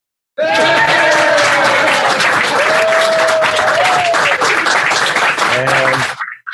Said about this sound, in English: Keep applauding.